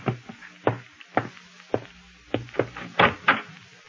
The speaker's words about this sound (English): Oh, excuse me. Someone's at the door.